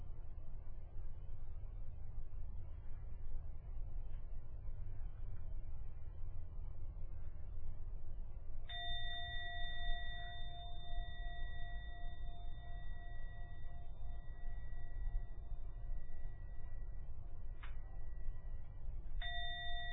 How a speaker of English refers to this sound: Going to ring the gong 3 times. Please keep your eyes closed until the last ringing of the gong fades away. Let that set you out for the meditation, for the end of the 3rd ringing of the gong.